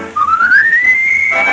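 A person whistles a clear note that glides steadily upward and holds, a brief, loud fragment of a melody with no talking, starting an overture inside the old Town Hall.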